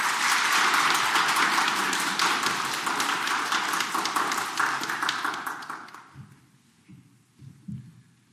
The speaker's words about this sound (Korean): 우리 환영의 박수 좀 부탁드릴까요? 네.